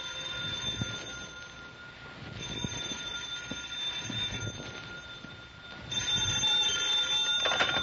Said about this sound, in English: And then the phone rang.